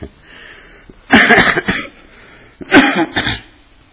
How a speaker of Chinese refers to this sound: 对不起，这个一个礼拜都在咳嗽，所以请大家忍耐一下。